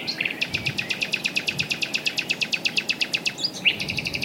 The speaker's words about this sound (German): Übrigens, es singen nur die Nachtigallmänner. Mit ihren sehnsüchtigen, aber auch energischen Liebesgesängen locken sie die Nachtigalldamen an. Erfahrene ältere Sänger kennen bis zu 190 Strophen. Und das klingt manchmal wie ein Ballerspiel.